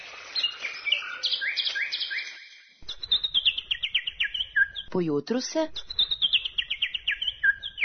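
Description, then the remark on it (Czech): A magpie that has flown onto a terrace calls with a run of quick, bright chirps in repeated descending bursts, fairly loud. A person briefly speaks partway through while the calling continues. “Da vas ne držim u neizvesnosti, otkriću vam da im je svraka doletela na terasu.”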